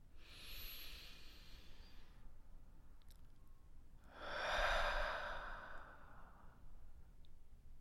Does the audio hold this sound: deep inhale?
yes